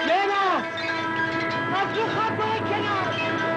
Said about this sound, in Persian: صدای سوت قطار شنیده می شود که به سرعت در حال نزدیک شدن است.